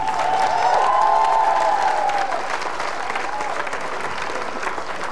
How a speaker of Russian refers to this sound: Итак, ваши аплодисменты обоим участникам!